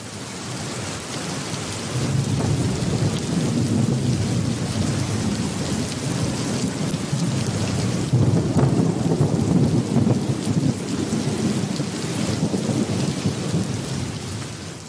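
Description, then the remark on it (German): A steady, heavy downpour of rain with deep rumbling thunder rolling underneath, a dense storm soundscape that swells after the first couple of seconds and stays loud throughout, with no voices. “Also mein Wunsch war, dass das Geräusch einen Sturm darstellt.”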